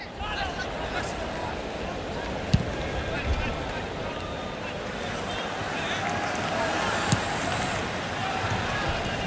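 A football match at the 2004 Athens Olympics, with a steady roar of crowd noise and chatter throughout, broken by a couple of sharp, isolated thuds of balls being kicked.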